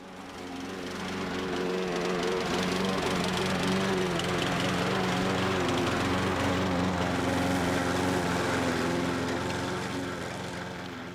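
A push lawn mower's small engine drones steadily as a teenaged boy pushes it over the lawn of a house on New Hope Road in Rogers: a loud, buzzy, continuous rumble that fades in at the start and eases slightly at the end, with no talking.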